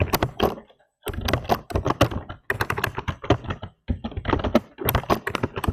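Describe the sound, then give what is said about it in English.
Rapid, clattering keystrokes from a computer keyboard, fairly loud, arriving in bursts with brief pauses between them and no talking. “we can hear you typing.”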